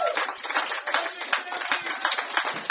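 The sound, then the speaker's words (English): A crowd applauds steadily, many hands clapping in a dense, continuous wash of sound that stays fairly loud and even throughout, with no voices rising above it. “Nothing like the thunderous sound of applause.”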